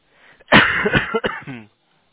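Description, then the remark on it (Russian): A single harsh, chesty cough, lingering from an illness about two weeks earlier: a loud burst followed by a rough, throaty rasp that trails off into a brief voiced grunt before silence. “Не, это я болел где-то 2 недели назад, но у меня кашель сохранился просто.”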